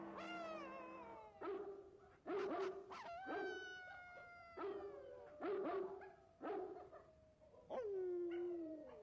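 A Great Dane barks and howls, about eight deep barks in an uneven rhythm mixed with long, wavering howls, with no one speaking.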